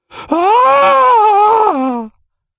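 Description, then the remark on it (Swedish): A woman, the mother, lets out one loud, drawn-out scream lasting about two seconds, holding a steady, strained pitch before it sags downward and cuts off. No one speaks. “Det är modern som skriker och hon pekar rakt framför sig.”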